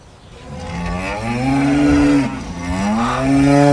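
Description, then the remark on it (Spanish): A cow in its pen moos twice in a row, two long, drawn-out, loud lows, the second following right after a brief dip in the first. “Más adelante, Camilón se encontró con la vaca mimosa que estaba en su corral.”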